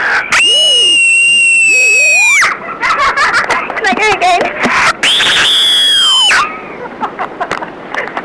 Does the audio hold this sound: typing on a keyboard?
no